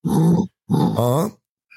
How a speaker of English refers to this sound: That's a reverse sneeze. It sounds like a pig snorting.